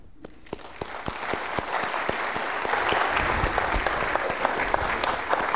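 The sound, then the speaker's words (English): Audience applause builds quickly from a few scattered claps into steady, dense clapping from a sizable crowd, sustained and fairly loud throughout, with no voices standing out. “Thank you so much, Bill, and under 5 minutes to applaud that.”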